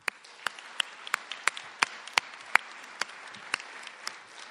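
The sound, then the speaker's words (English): Sparse, scattered applause from an audience at a writers festival main stage show at the MTYP theater, given for the staff who run it: sharp individual claps land at an uneven pace over a soft wash of clapping, fairly quiet overall, with no one talking. “Let's just start by giving a clap to the great folks who make MTYP such a terrific spot.”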